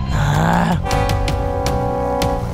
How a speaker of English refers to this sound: Sorry, I burped.